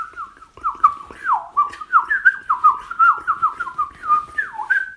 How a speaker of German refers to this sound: Dann natürlich die Mönchsgrasmücke, die schnelle Amsel, wie wir sie auch nennen, mit ihrem...